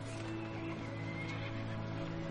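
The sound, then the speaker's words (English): A horse neighs loudly, a sustained whinny with strong tonal harmonics that fills the whole moment, with no voices over it. “Can you pack my horse?”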